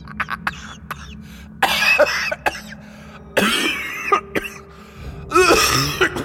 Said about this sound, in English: A mixture of coughing and laughing that reminded Keelan of a petrol mower struggling to start.